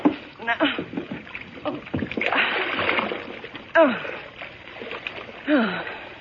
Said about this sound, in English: Now, oh, thanks for falling into the water, Henry. The tub is low, but you can drown in it just as quickly as in High River.